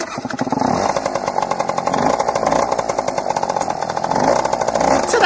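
A motorbike engine runs steadily, a loud buzzing rasp with a rapid pulsing rhythm that rises and falls slightly in pitch as it revs throughout.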